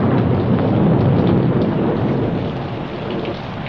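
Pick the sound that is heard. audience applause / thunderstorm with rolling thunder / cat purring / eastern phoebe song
thunderstorm with rolling thunder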